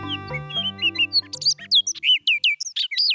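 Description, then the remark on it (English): An Orchard Oriole sings a quick, jumbled run of bright whistled and slurred notes, rising in pace toward the end, clear over a low sustained musical tone that fades out. “This bird song sounds like a nasally imitation of a robin, and the bird singing it is a rusty brown riff on a Baltimore Oriole.”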